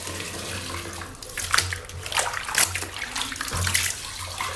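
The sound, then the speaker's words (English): Water splashes and sloshes in irregular bursts as a woman does laundry in the Kuwisi River in Glenview, Harare, Zimbabwe, during a cholera outbreak, with a low steady hum underneath and no talking. “is doing laundry in Kuwisi River in Glenview, the epicenter of cholera outbreak, with her three children nearby.”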